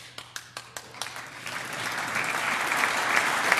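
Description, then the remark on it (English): During a speech, Governor Glendening starts clapping early with a few lone, evenly spaced claps, then more hands join in and the sound swells into a steady, fairly loud wash of crowd applause. “Governor Glendening with the early clap.”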